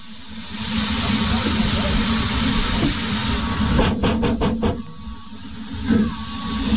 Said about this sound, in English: We left from Porthmadog, where a beautiful little engine was waiting for us at the platform, steaming quietly.